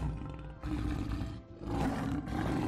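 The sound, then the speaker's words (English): A deep, rumbling big-cat roar, labeled as a leopard sound in a game, sounds in repeated surging bursts, loud, with brief dips between the growling pulses. “I would just like to point out that that does not sound like a freaking leopard. That sounds like a fucking lion.”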